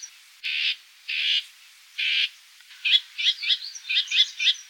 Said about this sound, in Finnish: Seuraavassa olen tämän kesän juhannuksena joen rannan tiheän tuomipuskan sisällä lähellä kertun pesää, koska emot paheksuvat tunkeiluani vät-vät ja trr äänillään.